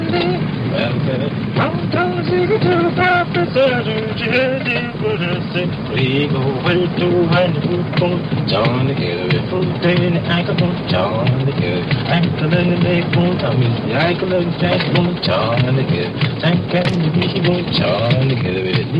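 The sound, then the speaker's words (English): A man from Mississippi sings a spiritual while driving a car down Park Avenue in New York, beating out time with his hands on the steering wheel, all over a continuous low engine rumble and road noise. “singing a spiritual and beating out time on the steering wheel while driving Tony down Park Avenue”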